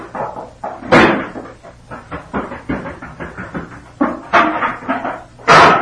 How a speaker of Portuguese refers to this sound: Entrou apressada batendo a porta.